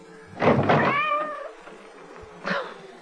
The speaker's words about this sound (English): I didn't know he was still out. I thought we'd already let him in. That cursed cat! Go away! Away! Soaking wet, dripping with water.